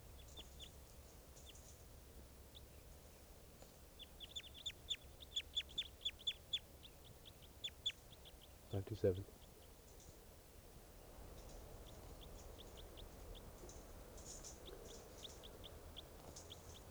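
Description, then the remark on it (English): Birds from a flock caught hanging in a net give a series of short, high-pitched chirps in quick bursts, with a loud thump midway and a low background rumble throughout; more faint calls return toward the end. “I've still got six birds hanging in the net from the last flock that flew in”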